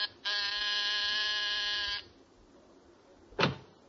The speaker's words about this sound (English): There's a pair of martinis and a good dinner under your belt at 10 o'clock as you press the buzzer outside his apartment.